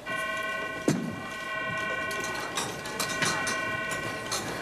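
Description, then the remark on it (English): A buzzer drones without pause for the whole stretch, a steady, harsh, mid-pitched tone with a bright buzzy edge, while a few dull knocks and rustling clatter come and go beneath it. “That buzzer is going to make me nuts.”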